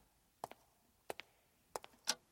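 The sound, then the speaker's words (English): Quiet, crisp grandfather clock ticks in a steady tick-tock rhythm, each beat a sharp double click, heard alone against near silence in a Rococo-style hall. “No pomp, no triumphant trumpets, only the sound of a ticking grandfather clock, and from a hidden alcove, His Royal Highness, Prince Philip.”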